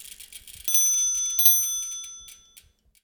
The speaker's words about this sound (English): Now, speaking of Hub and Spoke, let's hear that cute little bike bell and get going.